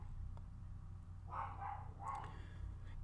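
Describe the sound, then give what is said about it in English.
A puppy gives a few short, high barks, roughly three quick yaps between about 1.3 and 2.2 seconds, faint over a steady low hum, with no one speaking. “If you all hear my puppy barking, I am so sorry.”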